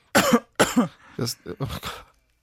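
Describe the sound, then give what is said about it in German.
Two loud coughs followed by a quick series of rougher throat-clearing bursts, as two people cough and clear their throats together to free a rough voice, with no talking in between. “Husten einfach gemeinsam. Wir husten deine Stimmbänder frei”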